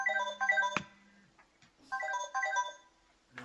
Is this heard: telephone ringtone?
yes